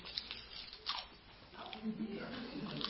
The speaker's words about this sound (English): Those on the tape, I just screwed it up and chewed it up.